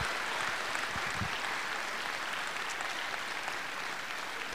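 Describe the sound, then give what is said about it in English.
Sustained applause from a large crowd for the speaker's colleagues, a dense steady wash of clapping that stays loud and even throughout, with no one speaking. “I want you all to give a big round of applause to my colleagues.”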